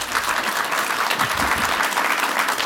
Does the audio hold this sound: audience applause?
yes